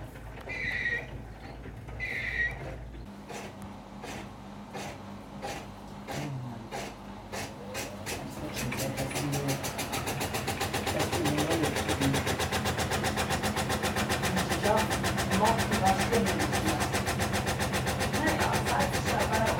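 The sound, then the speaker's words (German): A washer-dryer going into its spin cycle: regular thumps and clicks speed up, then build into a loud, steady whirring roar. A voice is briefly heard at the start. “Genau, das ist jetzt das Schleudern.”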